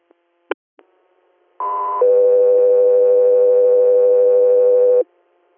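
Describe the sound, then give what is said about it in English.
A few sharp clicks, then a loud two-tone dispatch page alerting unit Echo 3 Air to an inter-hospital response in New York: a brief higher tone jumps to a lower steady tone held for about three seconds before cutting off. No voices. “Echo 3 Air, standby for tones.”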